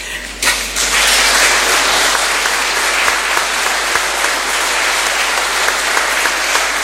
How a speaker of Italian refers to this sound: L'applauso comprende anche il maestro del coro, eh? Sì, è chiaro. Implicito.